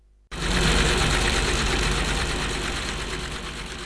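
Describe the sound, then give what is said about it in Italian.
A boat engine is started, kicking on abruptly after a brief quiet moment, then idles with a loud, steady, rhythmic chugging rumble, settling slightly toward the end. No one speaks. “E intanto si diresse verso la barca, lasciando agli altri il lavoro di facchinaggio, ed avviò il motore.”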